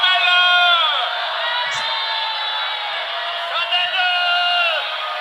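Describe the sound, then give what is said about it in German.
A crowd cheering effect played from a small red sound box with 16 buttons: a dense, steady roar of many voices with high whoops and sliding shouts rising and falling, loud and continuous for about five seconds, slightly thin and band-limited like a playback. “Ja, das ist eine Soundbox, das ist so eine kleine rote Kiste, ja, die 16 Knöpfe hat.”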